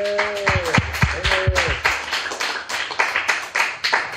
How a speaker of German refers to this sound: Ihr wart ganz toll. Vielen Dank. Bitte einmal Applaus für die Engel.